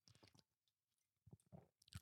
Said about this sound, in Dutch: Ik neem een slokje water tussendoor. Dus voor de mensen die cardio aan het doen zijn, doe dat ook even.